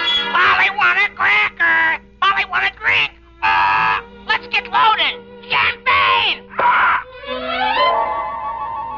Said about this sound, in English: Ladies and gentlemen, you have just met Caesar the Parrot, a sort of feathered candidate for Alcoholics Anonymous. Yes, Caesar really loves his champagne, but he isn't getting much of it these days.